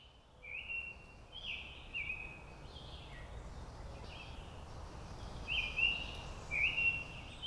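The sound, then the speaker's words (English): A summer tanager sings a series of clear, slurred whistled phrases, repeated with short pauses over a steady low outdoor rumble. “That was a summer tanager in the recording.”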